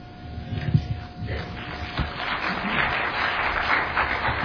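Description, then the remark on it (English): An audience at a sermon claps steadily for two men, a dense crackle of many hands that swells after the first couple of seconds and holds at a lively, even level until the end. “Could I ask everyone to please join me in giving both of these men a good round of applause?”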